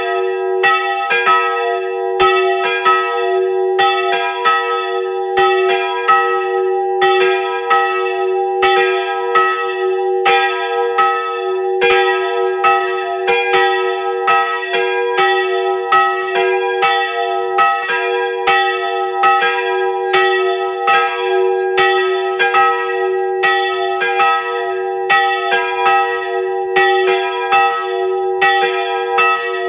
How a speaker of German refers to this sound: Es ist 12 Uhr. Sie hören die Glocken der Wallfahrtskirche Hilkering in Oberösterreich.